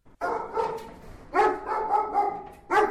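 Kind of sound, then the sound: animal, sniffer dog barking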